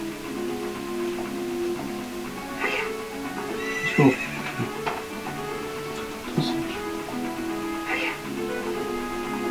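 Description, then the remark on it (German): A horse whinnies and snorts while its hooves clip-clop in an uneven rhythm as it runs ahead, with a few sharper knocks standing out over a steady background hum. “Unser Pferd ist schon ein bisschen vorgelaufen.”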